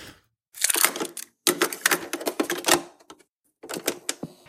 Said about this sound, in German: Dann wechseln wir das Thema und tu die Kassette rein und es fängt an.